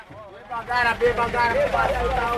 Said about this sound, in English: Machakos bus station in Nairobi is a beehive of activities. Bus loads have been ferrying thousands of people to their rural homes ahead of next week's elections.